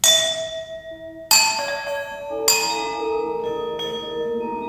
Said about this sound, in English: The dominant sounds come from marimba and vibraphone, but about 20 other instruments are featured, including the cajon, hand claps, and electronically processed Indian Noah bells.